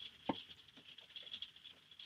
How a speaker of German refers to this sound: Genau, du willst einfach nur, dass man mal hört, wie es ist, wenn Regen auf ein Wohnmobil trifft.